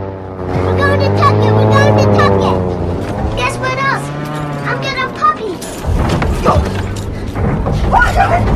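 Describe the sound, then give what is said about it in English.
A small propeller plane flying low over the sea drones loudly, its buzzing engine holding steady with a slight rise and fall in pitch as it passes by, with no other sounds breaking through. “Next day, a small airplane flies low over the sea.”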